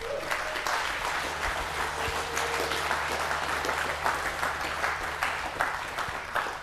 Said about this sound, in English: Thank you very much. I know some of that was pity applause